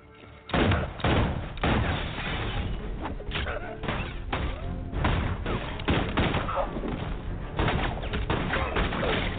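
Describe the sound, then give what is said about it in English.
A battle scene from the film The Magnificent Seven with loud gunfire: rapid, overlapping gunshot bursts and thuds crowd together over a steady, muffled din, with a few brief high calls cutting through. “Bullets, guys screaming, the occasional horse.”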